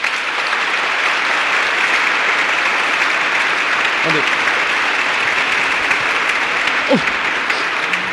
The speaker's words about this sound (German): Nun, so sei's drum, wir freuen uns und begrüßen diesen neuen PKP, nämlich Pantoffelkino-Pastor, den wir frei Haus geliefert bekommen. Mit einem herzlichen Beifall hier unter uns.